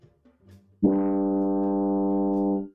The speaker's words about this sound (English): Will you please show us what it sounds like when the mouthpiece is on the tuba? So I'm going to buzz a note. And then play it.